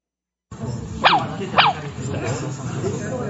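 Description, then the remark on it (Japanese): An aibo robot dog made by Sony gives two short, high-pitched yips that slide downward, about half a second apart, over a steady murmur of room noise. “これは、ソニーという会社が作った、アイボという犬です。”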